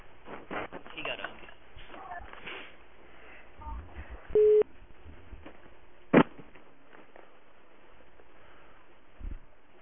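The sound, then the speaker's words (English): A short, steady phone beep tone, which sounds each time a call is dialed out, plays midway through a muffled, narrow telephone line, followed by a brief click-like blip, with faint indistinct voices and line noise in the background. “Whose phone makes the beep sound every time they dial out? It sounds more like one of those European dial tones.”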